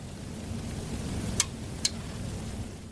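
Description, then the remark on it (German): A steady, soft hiss fills the background while two sharp, brief clicks sound close together in the middle, the click of a radio control desk switching onto the transmitter to go on air. No one speaks. “Das ist das Geräusch, was kommt, wenn wir uns auf den Sender schalten, wenn wir on air gehen.”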